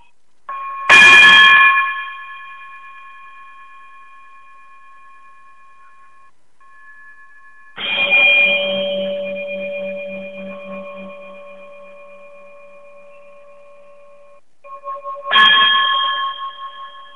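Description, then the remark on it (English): Three bell chimes ring out one after another, several seconds apart, each striking clearly and then fading into a long, shimmering resonance with no voices present. “if you be so kind to chime us out of here, we'll get out of it.”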